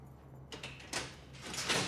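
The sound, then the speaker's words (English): A door into a cell is opened in a few scraping, rattling bursts, building to a louder final push, over a steady low hum. No one speaks. “Hearing the door, he sits up.”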